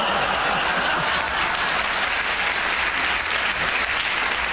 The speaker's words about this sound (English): Well, in spite of all the libelous things you said, you certainly enjoyed it and you deserved your round of applause.